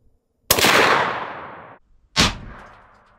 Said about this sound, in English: I have a 155-grain boat tail hollow point and a 113-grain full metal jacket, apparently screaming at 3,099 feet per second. We're gonna take a shot at our armored truck, see if we penetrate it. Okay, full metal jacket is first. Here we go.